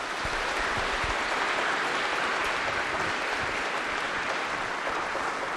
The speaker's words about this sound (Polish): Proszę Państwa, ci oto Państwo, trzy pary małżeńskie, wszystkie wstąpiły w sakramentalny związek małżeński w ten roku. Wielkie brawa na początek dla nich.